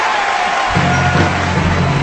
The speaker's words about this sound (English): There was loud cheering when Hollywood star John Travolta announced that the two musicians had won the Oscar